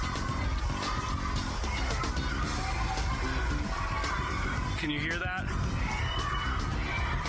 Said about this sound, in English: They're shouting, let us out, let us out. The shouts of hundreds of parents and children detained by ICE, protesting from behind the walls of the Family Detention Center in Dilley, Texas over the weekend.